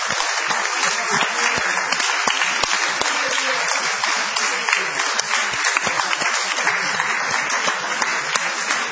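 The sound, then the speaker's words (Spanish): Sustained audience applause for Tom Lupo at Gorriti 5963 in Palermo, Buenos Aires, a dense steady patter of many hands clapping at an even, loud level with no voices standing out. “Un aplauso.”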